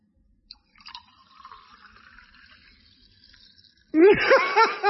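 A drink is poured into a glass with a soft, steady hiss of liquid for a few seconds, then a loud voice abruptly takes over at the end.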